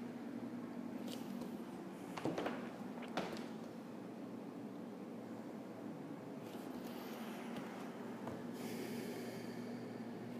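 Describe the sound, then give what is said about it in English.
Slow, deep yogic breaths taken with the mouth closed, paired with Dirgha breathing, a soft, throaty hiss on both inhalation and exhalation rising and falling in long, even strokes, fairly quiet, over a faint steady low hum. “When paired with Dirgha, it creates a very slow, steady, smooth breath in and out of the body.”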